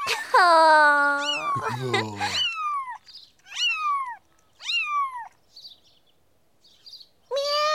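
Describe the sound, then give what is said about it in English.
Three small kittens give several high, thin meows, each rising and falling, with a longer wavering cry at the start and short pauses between calls. “Lovely baby cats!”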